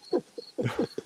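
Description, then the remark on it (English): A cricket chirps on a patio in a thin, steady high-pitched trill, with short squeaky, chittering calls popping up over it in quick bursts. No one speaks. “Yeah, we got literal crickets. An actual cricket.”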